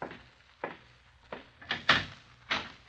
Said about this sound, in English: I expect... Oh, here he is now, I think. Open the door, will you,